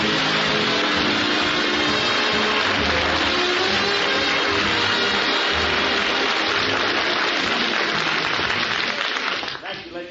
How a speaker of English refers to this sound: It means to me to have me come out here all by myself, and you're all smiling and applauding and glad to see me, and I just want to tell you I love you for it because I need it.